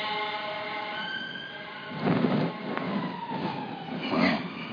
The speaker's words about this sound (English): I've heard that one before, that siren.